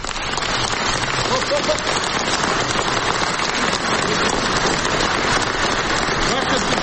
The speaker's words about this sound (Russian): «Ваше святейшество, эти аплодисменты слышны сейчас по всему миру», — заявил Петр Порошенко.